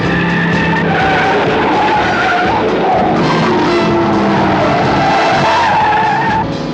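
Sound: car tires skidding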